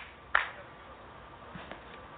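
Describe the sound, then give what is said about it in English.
A single sharp hand clap, done as a chakra-clearing of the space between the sixth and seventh chakras, rings out and decays over quiet background hiss, followed a moment later by a much fainter second tap. “Okay, I'm going to do a little clapping clearing there.”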